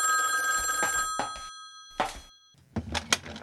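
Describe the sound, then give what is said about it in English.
An old telephone bell rings in two close bursts of sustained metallic jangling, followed by the clatter and thunk of the receiver being lifted. “Oh, I'll get the phone”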